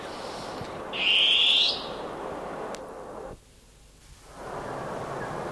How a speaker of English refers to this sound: Oh, beautiful long-tailed cuckoo.